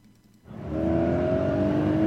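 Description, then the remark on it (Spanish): A car engine revs up sharply after a brief quiet start, then holds a loud, steady roar with a rising whine, alone with no voices. “El tráfico a esta hora.”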